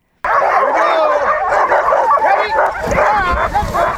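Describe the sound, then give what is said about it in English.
A loud, dense chorus of hundreds of sled dogs at a summer dog sled tour camp on Denver Glacier, about 6,000 feet above Skagway, barking, yipping and whining at once, overlapping continuously with no pauses. “About 6,000 feet above Skagway, hundreds of sled dogs spend the summer taking tourists for rides.”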